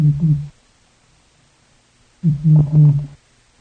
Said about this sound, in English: And for the first time, humans listened in on the voice of a veiled chameleon.